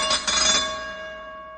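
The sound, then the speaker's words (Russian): A ship's bell of a military submarine is struck, its bright metallic clang ringing on with steady overtones and slowly fading away, with no one speaking. “А вот тут звучание рынды или колокола, как это бывает на подводной лодке.”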